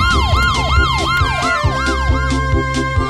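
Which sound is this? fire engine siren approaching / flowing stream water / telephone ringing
fire engine siren approaching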